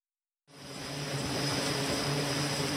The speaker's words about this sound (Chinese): 从杜鲁门号航空母舰的甲板上起飞，美国海军的飞机开始对叙利亚的伊斯兰国武装发动空袭。